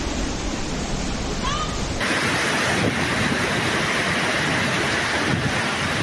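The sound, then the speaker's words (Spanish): Floodwater rushes down Calle El Médico in a loud, steady, unbroken roar that fills the whole clip, with a brief faint chirp early on. “Mira la calle como va para abajo, de agua.”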